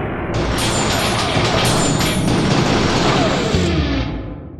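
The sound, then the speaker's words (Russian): A loud, sustained crash with bright, shattering noise of breaking glass as a laboratory door is torn off its hinge, filling several seconds before trailing off at the end. No voices are heard. “Зазвенели разбитые стекла. Дверь лаборатории крякнула и сорвалась с петли.”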